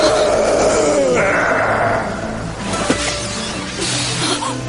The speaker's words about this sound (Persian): این فریاد قول بود؟ از روبرو بود.